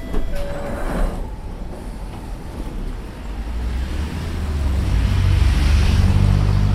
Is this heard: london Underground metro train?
yes